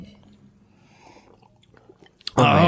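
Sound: sipping beer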